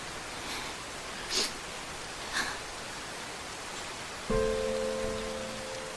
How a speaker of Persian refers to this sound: گیهان توی خیابون زیر بارون قدم میزنه.